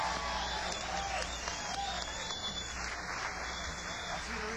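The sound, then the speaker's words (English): An audience claps steadily throughout, a dense, even wash of many hands at a fairly quiet level, with no pauses or swells and a faint murmur underneath. “Give away to you a big hand for all the work he's been doing all day.”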